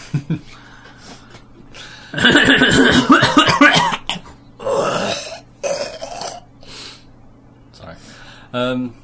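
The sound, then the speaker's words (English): Several rough, throaty coughs come in loud bursts, a long fit followed by a few shorter ones, over a faint steady hum with no other talking. “I'm coughing a lot.”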